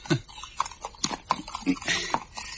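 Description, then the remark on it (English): Horse hooves clip-clop at a steady walking pace as the horse is ridden, roughly half a dozen distinct hoof strikes, moderately loud, with faint background murmuring. “It's years since I was on a horse.”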